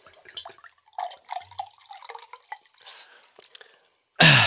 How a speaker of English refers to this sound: And now listen to this pour.